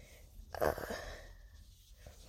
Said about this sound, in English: Ignore my sniffling. I have allergies.